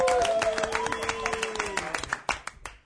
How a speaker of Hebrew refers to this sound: חבר'ה, תנו כפיים לשמילי הונגר. תנו לו.